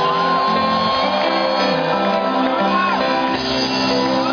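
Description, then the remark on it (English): An audience shouts and cheers together in a loud, sustained roar of overlapping voices, with high whoops and cries rising above the crowd for several seconds. “Give yourself another shout.”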